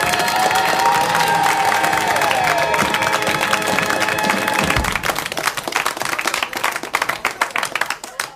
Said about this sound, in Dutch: Dames en heren, mag ik uw hartelijke aandacht en uw hartelijk applaus vragen voor uw eigen quizmaster